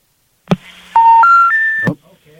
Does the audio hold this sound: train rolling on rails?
no